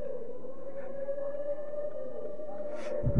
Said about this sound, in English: This Uludvani is very auspicious.